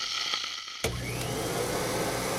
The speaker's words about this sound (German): Staubsauger?